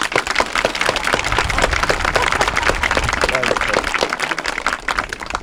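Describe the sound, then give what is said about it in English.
A crowd breaks into sustained applause to thank a man retiring as MC after 10 years of Pedro rededications, many hands clapping in a dense, steady patter that stays loud for several seconds, with a few voices murmuring underneath. “He deserves a special thanks from us for his years of fine service and a round of applause and a boutonniere.”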